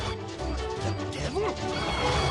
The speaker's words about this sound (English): The device chops through the cellar door.